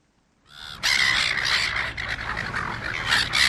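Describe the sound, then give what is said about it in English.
Silver gulls in Australia squawk loudly and continuously, several harsh cries overlapping in a busy chorus that starts abruptly and keeps going without pause. “Noisy and persistent seagulls are notorious for pestering beachgoers in Australia.”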